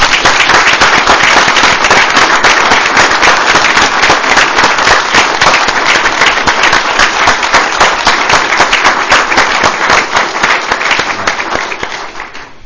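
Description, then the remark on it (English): An audience at a San Luis Obispo County Board of Supervisors meeting bursts into loud, sustained applause for the county's volunteers during National Volunteer Week, a dense crackle of many hands clapping at once that holds steady for several seconds before gradually tapering off. “And let's give all our volunteers, some of who are here and some of our department heads are here, a big round of applause.”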